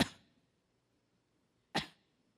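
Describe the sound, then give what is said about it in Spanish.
A voice imitates a smoker's small cough: two short, sharp coughs separated by a pause of nearly two seconds, each dying away quickly, fairly quiet with nothing else around them. “Y como han caminado 20 años ahí, de repente empieza una tosecita, ¿no ha visto?”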